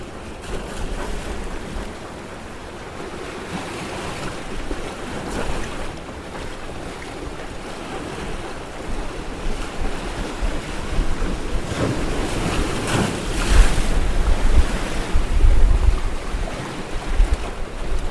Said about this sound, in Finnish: No, meillä on nyt aika mukavat oltavat, kun olemme tiukasti kiinni laiturissa ja voimme vaan tältä rannalta käsin ihailla tätä tuulen voimaa ja aaltoja ja pilvien kulkua matalalla ja kovaa.